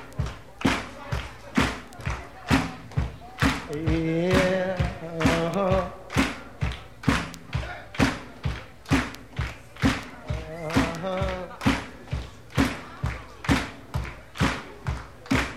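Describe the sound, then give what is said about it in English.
Steady foot stomping keeps an even beat of about two heavy thumps per second throughout, with a few brief vocal bursts rising over the rhythm. “Let me hear a little foot stomping.”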